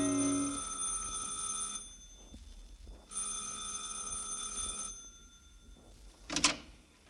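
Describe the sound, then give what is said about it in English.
An apartment doorbell on the second floor of a canopied apartment house, east from Broadway to Park and up in the 70s, rings in two sustained bursts of a couple of seconds each, a bright buzzing tone separated by a short pause, followed by a brief sharp clatter. “East from Broadway to Park and up to the 70s, and stop in front of the canopied apartment house, pause, smoke a cigarette, then go in, and on the second floor, ring a bell.”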